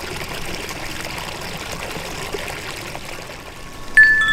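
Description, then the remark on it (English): Steady, rushing water from a creek right near an apartment burbles continuously, a dense bright wash with no pauses; near the very end a clear, ringing metallic tone of wind chimes at a house sounds over it. “That was some wind chimes from my parents' house and some running water from a creek right near my apartment.”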